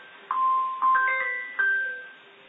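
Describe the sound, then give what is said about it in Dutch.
A telephone rings with a short electronic melody, a few clear, steady mid-pitched tones that step up and hold. It is fairly loud and there is no talking. “Daar gaat de telefoon, die laat ik even voor wat het is.”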